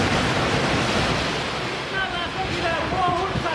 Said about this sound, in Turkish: Mumbai kenti şiddetli yağış ve toz fırtınası etkisindeydi. Akaryakıt istasyonu yanına dikilen 30 metre yüksekliğindeki reklam panosu rüzgarda sallanmaya başladı.